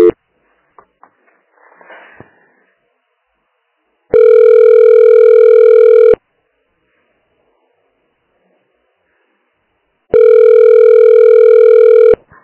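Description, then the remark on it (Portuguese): A telephone ringback tone sounds twice during a call transfer, each steady two-second electronic tone separated by about four seconds of silence, loud, after a few faint rustles at the start. “Eu passo pra ela, só me mentir, tá? Obrigada. Transferência.”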